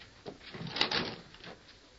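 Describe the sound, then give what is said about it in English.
An unlocked wooden cabin door creaks and scrapes open, a short rough grinding sweep lasting about a second against a quiet background. “Open the door, Sheriff. It's unlocked.”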